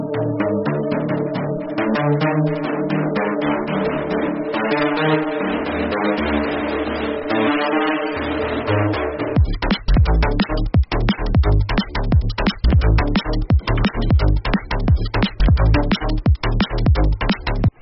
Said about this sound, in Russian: Во! Слышите, как круто валит там тарелка? Давайте еще раз послушаем этот кайф.